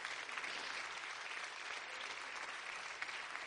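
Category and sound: crowd, audience hand clapping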